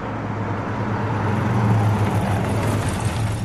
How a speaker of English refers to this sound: Oh, hang on a minute. Look over there. Our taxi's come back.